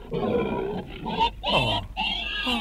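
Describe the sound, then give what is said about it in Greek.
A pig grunts and oinks in a rapid string of nasal, squealy bursts, fairly loud, with short pauses between the calls and no one talking. “Άτι είναι αυτό η γουρούνι?”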